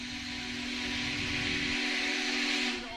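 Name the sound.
steam locomotive whistle blowing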